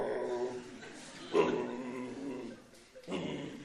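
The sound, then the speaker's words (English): A person vocally imitates the whimper a dog makes in response to an aggressive dog, producing a few soft, whiny, nasal sounds, rising briefly in intensity, with a short pause before a final whimpering note. “But what does the other dog do? He goes...”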